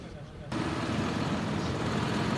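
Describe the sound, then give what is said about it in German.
About 70 tractors start their heavy engines, which rumble to life and hold a steady, loud drone as the tractors roll off together from Ostend at 11 o'clock, heading toward the B1: a dense, low mechanical roar that swells abruptly after a brief quieter moment. “Rund 70 Traktoren rollen los in Ostend.”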